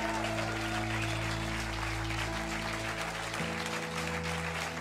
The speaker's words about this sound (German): Lasst uns Gott einen riesen Applaus geben.